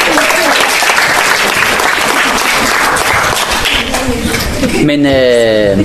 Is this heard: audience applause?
yes